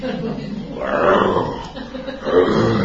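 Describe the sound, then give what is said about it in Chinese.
A man's voice imitates the low, rumbling growl of a tiger calling for its cubs, in two drawn-out bursts, fairly loud, with a short dip between them. “有冇見過啲老虎揾仔啊？”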